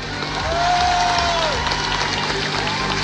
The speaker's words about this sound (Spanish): Por eso, lo que ha hecho Franco Parisi no es menor y se merece nuestro respeto y nuestro aplauso.